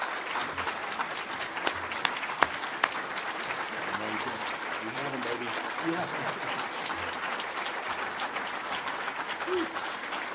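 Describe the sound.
Steady audience applause fills the whole stretch, a dense wash of many hands clapping at an even level, with a few sharper claps standing out early and faint voices murmuring underneath.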